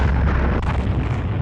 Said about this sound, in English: Pierce activates the charges, causing an explosion that is heard all across the shallow valley.